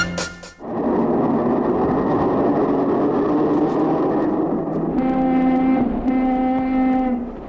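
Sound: car horn honking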